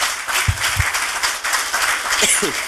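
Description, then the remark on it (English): An audience applauds to celebrate the mothers, a dense, steady wash of many hands clapping that holds at an even loudness throughout, with a few brief voices calling out underneath. “Why don't you put your hands together and give them a clap for a start?”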